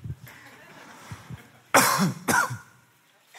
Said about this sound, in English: Sorry about that. Cough. Caught something.